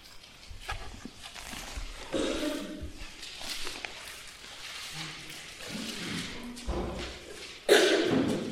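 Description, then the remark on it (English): Many hard-copy Bible pages being shuffled and flipped at once as readers turn to John chapter 13, a steady wash of overlapping papery rustles with occasional soft thumps, swelling into a louder flurry near the end. “Today I could hear a lot of shuffling of pages.”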